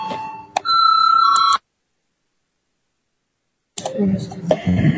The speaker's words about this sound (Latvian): Paldies, lūdzu zvanu, balsosim par lēmumu projektu.